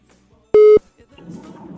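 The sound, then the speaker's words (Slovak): A single short, loud telephone ringback beep sounds once over a quiet line as a phone call is being placed, followed by faint low murmuring as someone begins to talk. “Ale voláme teraz … napríklad.”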